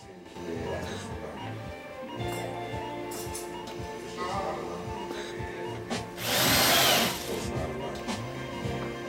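A power drill, handed over for use in theatre, whirs loudly in one short burst of about a second, rising out of a busy background of clattering and voices.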